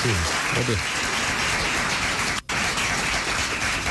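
A round of applause from a crowd, steady and dense clapping that fills the whole stretch, with a voice briefly heard at the start and a momentary dropout midway.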